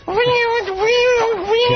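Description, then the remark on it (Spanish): A voice imitates the noise of an old school computer printer from the floppy-disk PC era: a loud, continuous nasal whine whose pitch wobbles up and down for nearly two seconds, sounding almost like a drawn-out meow. “Ya como me conoce, que había unas impresoras que hacían un ruido...”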